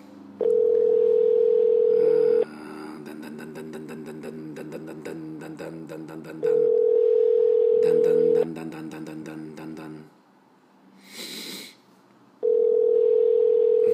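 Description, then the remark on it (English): An outgoing call rings unanswered: three long, steady ringback tones, each about two seconds, spaced by pauses filled with busy background music, plus a brief noisy burst before the last ring. “Not even picking up the phone.”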